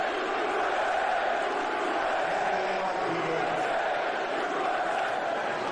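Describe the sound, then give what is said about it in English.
A large stadium crowd chants "USA" before the national anthem, with Donald Trump present, as aired on Fox, a dense and steady roar of many voices filling the whole stretch at even loudness, with no single voice standing out. “And on Fox there, they just played the USA part before the anthem started.”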